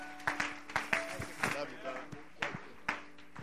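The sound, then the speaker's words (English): An audience at Mount Pisgah claps a hand clap of appreciation to welcome a student pastor to the pulpit, in a steady, rhythmic beat of sharp, loud hand claps about twice a second, with a sustained musical tone and some voices murmuring underneath. “why don't you give him a Mount Pisgah hand clap of appreciation tonight and welcome him to this pulpit.”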